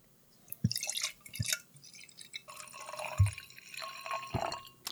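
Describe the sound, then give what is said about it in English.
Gokyo Go Series Orange sake is poured into a glass, with splashing, dripping trickles and a few sharp clinks and knocks against the glass, fairly quiet overall with no talking. “Let's get this in the glass and give it a taste because my interest is piqued.”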